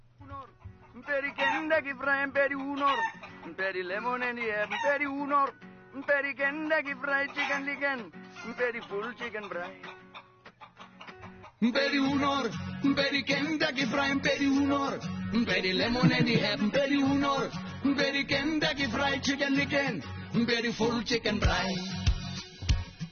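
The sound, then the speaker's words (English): A catchy Afrikaans novelty pop song with chicken sounds plays loud, with a sung vocal over a steady bass line; the arrangement thickens and grows fuller about halfway through. “…. It's a big hit. Afrikaans loved it. I'll play a little bit of it.”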